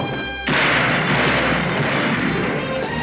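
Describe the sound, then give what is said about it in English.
After a brief quieter start, loud rifle shots fired at a door from inside a house erupt and blur together into a dense, continuous roar of gunfire that carries on without pause, with no voices. “He searches left and right, runs up toward the house, shoots at the door from inside the house.”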